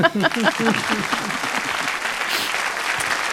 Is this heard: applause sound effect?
yes